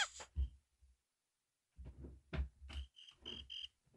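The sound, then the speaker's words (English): The "Dave Cricket" cricket chirping sound effect: a few short, high-pitched trilling bursts in a quick rhythm, mixed with low soft thumps, fairly faint overall. “The Dave Cricket going off again.”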